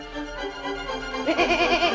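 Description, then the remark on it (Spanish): A sheep bleats in a long, wavering cry that rises in the second half, fairly loud, with no one talking over it. “La oveja nos está diciendo que ella está muy copada con Radio Clásica porque se hizo un nuevo amigo”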